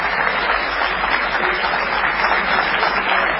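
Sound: applause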